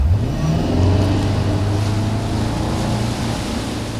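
A motorboat engine drones loudly as it tows a wake surfer on a rope, its low hum rising slightly at first and then holding steady over the rush of churning water, with no voices.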